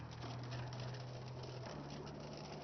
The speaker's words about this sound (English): As I drive through this beautiful rain shower, I was in dry, sunny, and suddenly I'm in dark and cloudy and rainy and wet and pouring and pouring.